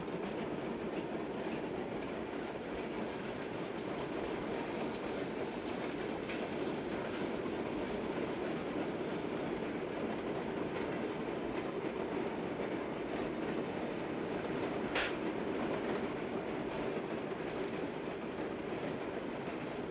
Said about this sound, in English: In fact, the Great Western is 112 years old. Now we're very close to midnight, and now I think here comes our train.